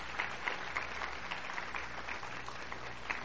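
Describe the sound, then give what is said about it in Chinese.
A church audience claps steadily to thank the Lord, dense overlapping hand claps forming a continuous, moderately loud wash of applause with small rhythmic surges throughout. “感谢神，我们为上帝所做的，我们鼓掌感谢主，好不好？”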